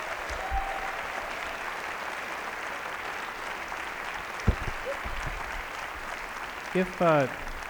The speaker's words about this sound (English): Let's have another round of applause for the new ….